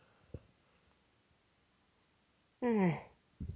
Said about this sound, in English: Because sorry, now I'm yawning.